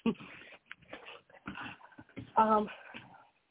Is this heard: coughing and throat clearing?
no